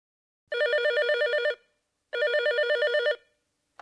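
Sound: telephone ringing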